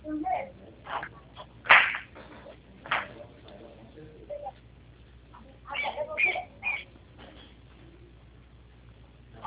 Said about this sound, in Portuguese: Passarinho.